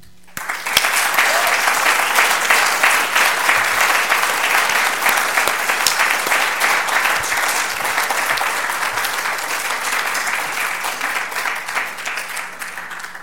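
A church audience breaks into sustained applause, given to honor God: a dense wash of many hands clapping that starts abruptly and holds steady and loud for about thirteen seconds, easing only slightly near the end.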